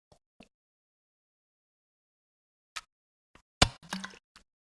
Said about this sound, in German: So, und jetzt trinke ich darauf erstmal einen Schluck Wässerchen.